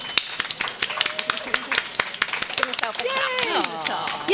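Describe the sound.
An audience in Harrogate applauds in welcome for a worm farmer taking the stage, with steady, overlapping claps throughout; voices rise over the clapping toward the end.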